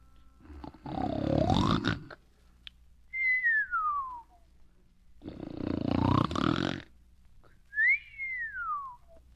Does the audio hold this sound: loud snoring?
yes